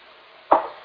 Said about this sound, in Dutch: Maar ik ga even een slokje nemen. Helder water.